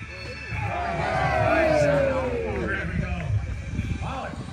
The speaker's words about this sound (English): Quite a crowd down here as well. This is a nice spot down here.